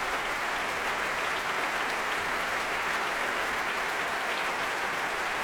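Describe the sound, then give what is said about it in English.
A large audience at a Proms concert applauds the orchestra and its conductor steadily at the end of the evening, a dense, continuous wash of clapping that stays even and full throughout, with no voices breaking through. The conductor returns to acknowledge the applause and the orchestra rises to its feet. “And back he comes to acknowledge the applause. The orchestra rises to its feet.”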